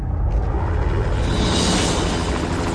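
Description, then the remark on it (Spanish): A loud, steady mechanical roar with deep rumbling low end and a rising whooshing hiss as two helicopters fly over a monastery, building in intensity with no speech. “Dos helicópteros sobrevuelan el monasterio.”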